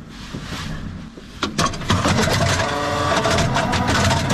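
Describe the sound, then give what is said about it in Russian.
Heavy tank engines near Bakhmut, as tank crews prepare the vehicles for battle. The engines rumble low for the first second, then surge into a loud, steady roar with a harsh mechanical clatter that holds to the end. No one speaks. “Это танкисты возле Бахмута готовят машины к бою.”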